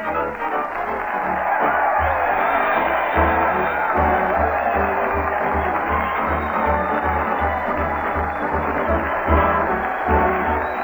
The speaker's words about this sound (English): Listen to that crowd cheer Fred Allen as he leads the parade down Main Street to the old Town Hall. Fred's leading the band with a drumstick, and he's followed by those veterans of many a turkey, the mighty Allen Art Players.